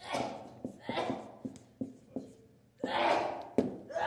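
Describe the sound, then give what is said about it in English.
Someone sneezes repeatedly: a run of sharp, breathy bursts over a few seconds, separated by quick gasping breaths, with two louder sneezes toward the end. “Bless you.”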